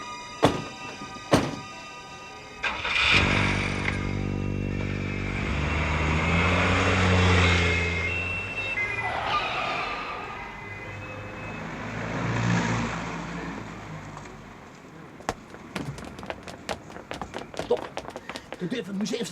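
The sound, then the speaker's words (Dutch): Two car doors thud shut as people get into the car, then the car engine turns over and catches, revs loudly, and the car pulls away, its drone fading before a few light clicks. “Dan snel in de auto. En wegwezen met de schat.”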